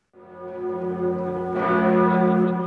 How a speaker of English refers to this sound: Cathedral bells ring out over the majestic French city of Metz.